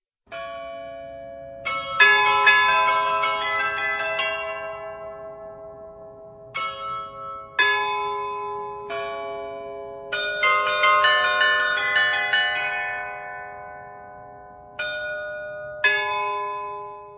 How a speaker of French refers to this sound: l'un des plus beaux complexes baroques de Prague, non loin du château de Hradčany, ancien lieu de pèlerinage connu aujourd'hui notamment pour son carillon qui non seulement mesure le temps, mais qui joue aussi des airs appréciés par les passants.